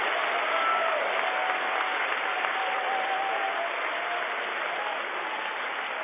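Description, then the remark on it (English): An audience claps their hands to the Holy Ghost in a steady, dense wash of applause that holds at an even, moderate loudness throughout, with a faint murmur of voices underneath. “Somebody clap your hands to the Holy Ghost.”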